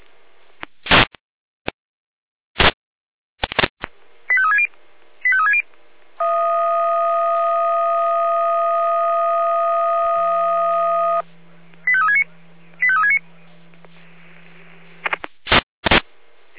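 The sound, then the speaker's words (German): A sequence of fire brigade radio alarm call tones sent by the Jena control centre (Leitstelle Jena): sharp clicks and bursts of noise, short warbling chirps, a long steady multi-pitched tone joined by a low hum, then more chirps and bursts, with no talking. “Auf Funkstelle, Leitstelle mit Alarmruf.”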